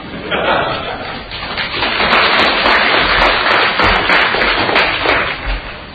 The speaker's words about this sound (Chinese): 再一次感谢大家的掌声鼓励。